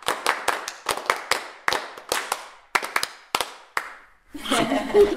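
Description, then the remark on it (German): Sharp hand claps made with two hands in a loose, uneven rhythm, about fifteen crisp slaps with short decays, followed by a brief stretch of a voice talking at the end. “Na genau, morgen geht es bei uns unter anderem ums Klatschen und zwar in allen möglichen Formen bis hin zu richtig durchkomponierter Klatschmusik.”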